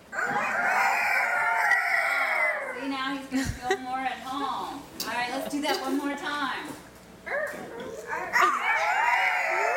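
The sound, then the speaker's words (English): A rooster named Russell crows loudly, with a run of throaty clucks and squawks in between before another long crow at the end. “it's important to bring the rooster out at some point because he might have something important to say”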